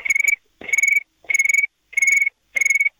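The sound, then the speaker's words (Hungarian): A boy imitates a cricket with five evenly spaced, high buzzing trills, each lasting about a third of a second, fairly loud, with short silences in between. “Mit utánzol jól? Egy pacit, …, ló? Tücsköt.”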